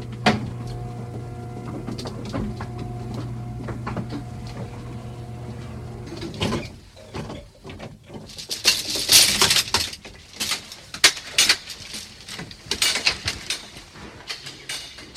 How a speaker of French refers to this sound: Je descends avec l'ascenseur 3 étages.